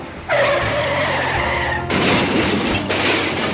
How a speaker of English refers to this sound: I started the car and pulled carefully into traffic.